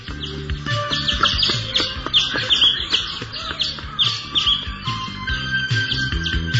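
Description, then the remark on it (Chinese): Several caged birds chirp and tweet steadily, their bright, overlapping calls repeating throughout over a low, busy background hum, with no one speaking. “安东马上付了钱，愉快地带着鸟儿离开了。”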